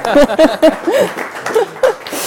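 An audience applauds in a steady, dense patter of clapping, with short voiced calls and bits of laughter rising above it several times over a couple of seconds.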